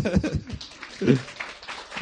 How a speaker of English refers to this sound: So she is a mama. Proto ona je mama. So let's clap for mama.